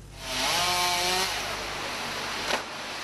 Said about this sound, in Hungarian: Ágakat vágnak le a tűzoltók ebben a zsúfolt bukaresti utcában.